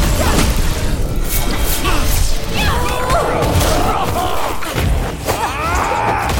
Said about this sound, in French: Et ce fut terrible. Pouvoir magique, métal et griffes s'entrechoquèrent dans un fracas assourdissant, faisant trembler jusqu'aux fondations de Castell.